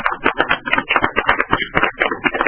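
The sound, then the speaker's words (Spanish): A steady burst of audience applause after a poem reading, dense overlapping claps forming a continuous crackling patter at an even, fairly loud level, with no voices over it. “Yo creo que es digno de aplaudirlo, ¿no?”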